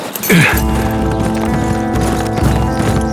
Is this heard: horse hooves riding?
yes